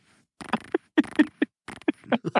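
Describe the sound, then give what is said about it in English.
A voice imitates the engine of a boat 50 feet away with a run of short, sputtering voiced bursts in an uneven, chugging rhythm, moderately loud, with no other talk. “I sleep through thunderstorms, let alone a boat that's 50 feet away from me going.”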